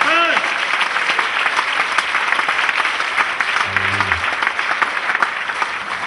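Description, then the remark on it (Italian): An audience applauds steadily, a dense, continuous wash of clapping hands with no pauses; a brief voice and a short low tone surface beneath it. “Signore, li affidiamo nelle tue mani, nel nome di Gesù Cristo, che applaudiamo, benedetti in eterno.”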